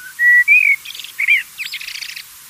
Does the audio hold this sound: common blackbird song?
yes